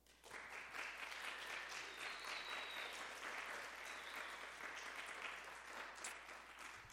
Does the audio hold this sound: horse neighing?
no